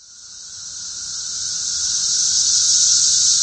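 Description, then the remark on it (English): A dense chorus of periodical cicadas, emerged by the billions across the eastern United States, fills the air with a steady, high-pitched droning buzz that swells gradually louder over a few seconds, with no voices present. “Over the past few weeks, across a wide swath of the eastern United States, these notoriously noisy insects have emerged by the billions from their long underground adolescence.”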